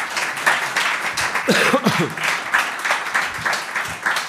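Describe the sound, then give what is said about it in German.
An audience at the 21run store in Cologne applauds the crew, with dense, continuous clapping and a few voices calling out briefly partway through before the applause carries on. “Und ich glaube, das ist mal ein Applaus wert.”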